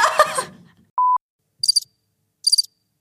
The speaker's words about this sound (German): Ey, welcher Knopf war das? Hä? Der mit der Grille? Ey, geil.